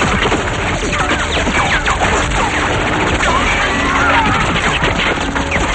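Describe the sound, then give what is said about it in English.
A loud, chaotic barrage of smashing glass and rapid gunfire, with a motorcycle crashing through glass and a waterfall while its rider fires, mowing people down in a shower of bullets, glass and water; dense, continuous noise that never lets up, crowd-like shouting blended underneath. “crashes through the glass and the waterfall on his motorcycle. He fires, mowing them down in a shower of bullets, glass, and water.”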